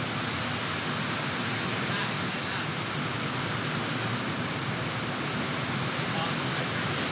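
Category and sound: nature, rain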